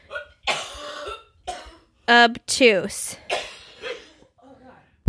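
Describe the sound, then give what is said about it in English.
Someone coughs and clears their throat several times in short, harsh bursts, with bits of muffled voice mixed in between. “I'm going to play the fifth because I'm coughing.”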